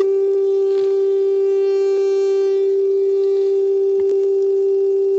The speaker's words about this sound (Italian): Cosa vuol dire portante? Se io vi volessi fare un esempio non radio ma acustico che è simile, una portante radio, ecco, è una specie di tono, un fischio, ve la ritorno.